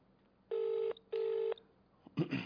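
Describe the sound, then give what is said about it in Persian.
A phone call to the Kalameh network ringing on the line: two steady, buzzy ringback tones of equal length, separated by a short pause, followed by a brief rustling noise at the end. “در حال تماسیم با شبکه کلمه، تلفنم زیرنویس کردم، ما هم الان داریم زنگ میزنیم.”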